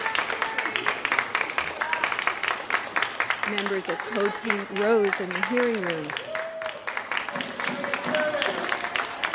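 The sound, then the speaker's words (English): Steady applause from anti-war demonstrators in a Senate Foreign Relations Committee hearing room on the Iran deal as the Secretary of State enters, dense overlapping claps continuing throughout while a man speaks over it. “he was greeted with applause from anti-war demonstrators.”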